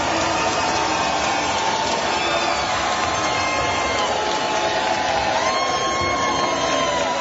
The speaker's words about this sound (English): The reception last night was a mixture of cheers and boos.